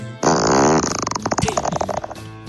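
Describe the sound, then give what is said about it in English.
A loud fart that starts as a long sustained blast, then breaks into a rapid series of wet sputters before trailing off, with no talking over it. “There were some late-year fart complaints, by the way.”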